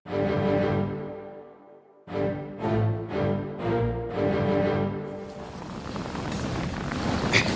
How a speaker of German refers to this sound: Der Schneefall hat nachgelassen. Und der Wind bläst nicht mehr ganz so stark.